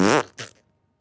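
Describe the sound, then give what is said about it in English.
A person blows a loud, buzzy raspberry that imitates a fart, lasting about a fifth of a second, then a shorter, breathier second burst that trails into silence. “Should we make fart noises?”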